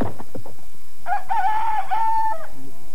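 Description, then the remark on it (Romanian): A rooster crows loudly, one long drawn-out cock-a-doodle-doo lasting over a second, preceded by a brief burst of clucking-like noise and ending with a low trailing note. “Cântă cocoșii pentru a doua oară.”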